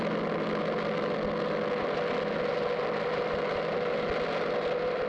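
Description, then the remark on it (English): A Marine H-34 medevac helicopter's engine drones steadily and loudly as it comes in under heavy fire, a dense mechanical roar holding constant with no speech over it. “Looks like the H-34, the Marine H-34 is coming in.”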